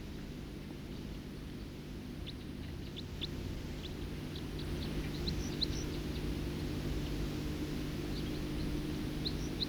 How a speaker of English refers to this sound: Flight call of a songster. Stop. Flight call of a songster again.